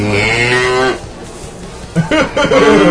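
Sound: cow mooing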